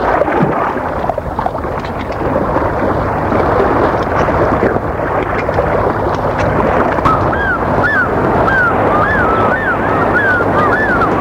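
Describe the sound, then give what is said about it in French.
Waves wash onto a beach in a steady, loud roar of surf, and a run of short, high, chirping calls rises over the water noise in the second half. “Puis passe l'après-midi sur la plage.”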